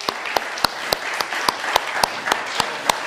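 An audience applauds steadily, a dense wash of clapping with sharp, evenly spaced claps cutting through at a quick regular beat. No one speaks over it.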